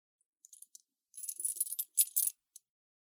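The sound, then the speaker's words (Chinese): Metal handcuffs clink and jangle as they are brought over to be looked at, a few light taps first, then a busier cluster of bright rattling chinks before one last small click. No voices. “手铐拿来给我看看。”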